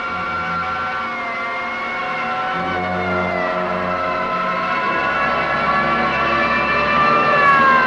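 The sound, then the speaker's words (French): Wailing city sirens rise and fall over swelling orchestral film music at the closing scene of a film noir, the sustained tones gliding and layering at a steady, fairly loud level with no speech. “là où la musique de Miklos Rossa se mêle aux sirènes de la ville”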